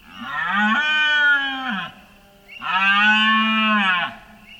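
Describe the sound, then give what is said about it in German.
Adult red deer stags roar during the rut at sunset in Cabaneros park: two long, deep, drawn-out bellows separated by a short pause, each loud, harmonically rich and sustained for over a second, with no voices present. “Die ersten erwachsenen Hirsche röhren, da nun die Rehe brünftig sind.”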